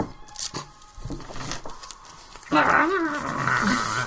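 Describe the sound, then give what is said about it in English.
A person lets out a loud, strained feral roar, growling and lasting over a second, sounding like an angry little puppy, preceded by quieter breathy huffs and shuffling sounds. “Sounds like a slightly enraged puppy.”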